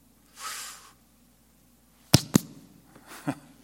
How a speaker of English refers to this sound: Slapping myself.